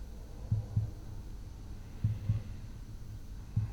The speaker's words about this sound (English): Just listen carefully. Do you hear that? Listen to my heartbeat.